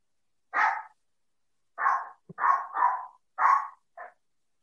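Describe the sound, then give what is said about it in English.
A Jack Russell terrier barks sharply in a run of about six quick yaps, separated by short pauses, with no one talking over it. “Jack Russell's. Oh, I've got one of those. They never stop barking.”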